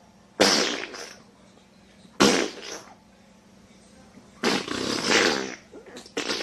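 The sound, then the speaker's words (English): Three loud, raspy fart noises in a row, each a short sputtering burst with brief pauses between, the last one longer, and a fourth starting just at the end. “And I ate some cheeseburgers. And I farted.”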